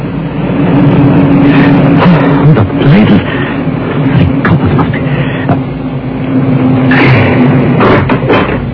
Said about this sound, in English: He was halfway down when he heard the car approach.